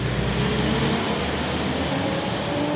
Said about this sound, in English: There's a tea house on the Turkish side, just a few dozen yards from the border. As men watch news about the latest on the ceasefire between the army and Kurdish militants, large Turkish military trucks roll by on their way to cross into Syria.